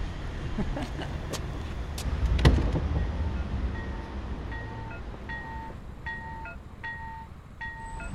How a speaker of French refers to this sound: Interphone, sonnette, appel.